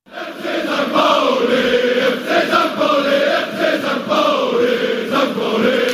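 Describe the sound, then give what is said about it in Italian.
A large crowd of FC St. Pauli football fans, jumping in the streets near the stadium in Hamburg before a match, chants the team's name in unison, many voices repeating it in a loud, steady, rhythmic rise and fall that carries on without a break. “La partita deve ancora iniziare, ma le vie vicino al Millerton Stadion ondeggiano di tifosi che saltano e cantano cori come questo, che ripete semplicemente il nome della loro squadra, FC San Pauli.”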